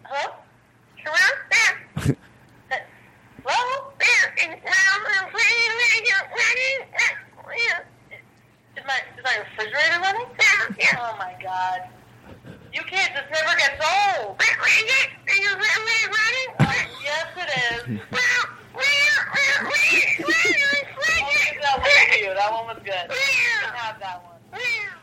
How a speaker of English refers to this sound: The cat crank call? Oh, the cat calls. So it calls in and sends him into the show. I think it's doing the refrigerator thing. Go ahead. It loves it.